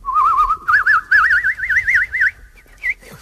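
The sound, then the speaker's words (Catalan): A man whistles an imitation of a bird call: a series of loud warbling trills in short bursts, rising slightly in pitch, ending with a brief higher chirp. “No podem estar cada dia interrompent el programa perquè el senyor … vol imitar el so d'un animal”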